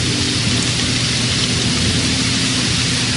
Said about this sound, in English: While you hear the rain, the tranquility of nature wending its way through this broadcast.